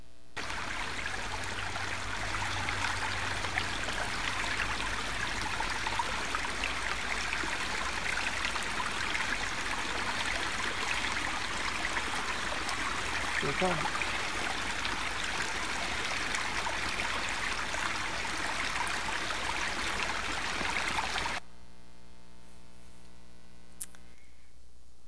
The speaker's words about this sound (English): what I want to do is play for you about 20 seconds of the sound of the creek in Montreat. Let's see if it'll play for us. Does it click in? Just 1 second. You ought to be able to hear the burbling brook and see the water flowing.